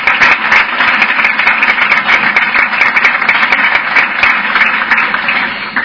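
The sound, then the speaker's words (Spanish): Steady crowd applause, many hands clapping in a dense, even roar that stays loud for about six seconds with no voices. “que ha dependido de mí, de mi concejal de festejos, que hoy no me puede acompañar por motivos personales, a que desde aquí mando un aplauso muy grande.”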